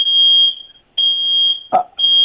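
household object, oven timer beeping

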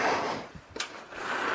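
household object, back door being opened

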